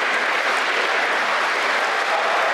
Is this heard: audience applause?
yes